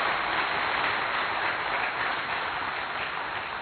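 Loud, sustained applause from an audience, a dense wash of many hands clapping steadily throughout with no voices standing out.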